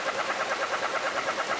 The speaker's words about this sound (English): In the Lake Mead National Recreation Area in Arizona, canyon tree frogs bleat loudly on a warm March evening. And if you listen closely, you might hear the faint chuckling of the relict leopard frog.